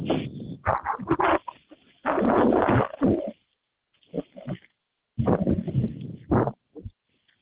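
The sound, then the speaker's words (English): A puppy whimpers and lets out several short yelps and barks in uneven bursts, with brief pauses between the outbursts. “It's okay, puppy.”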